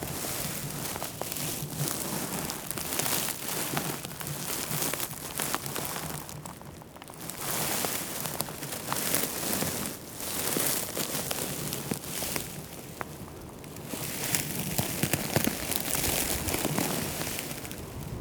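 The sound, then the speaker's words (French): Completely dry, parched gispet mountain grass crunches and crackles in a dense, steady rustle that runs the whole time, with brief softer lulls before the crisp crinkling swells again. No one speaks. “Ce bruit croustillant du gispette complètement sec et desséché.”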